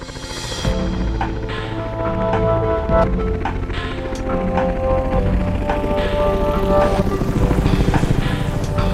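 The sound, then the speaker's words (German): A loud, steady helicopter rotor roar with a droning engine whine as a seriously injured holidaymaker is carried into the helicopter, with occasional metallic clanks and knocks breaking through the continuous noise. “Er hilft dabei, den schwerverletzten Urlauber aus Thüringen in den Helikopter zu tragen.”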